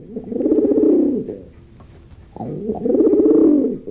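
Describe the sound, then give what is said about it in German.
Two long, throaty pigeon coos, each a low rolling warble lasting over a second, separated by a short pause. Fairly loud, with no talking. “Kuh ist nicht Taube, insofern geht das Spiel jetzt wieder rüber zu den Kindern.”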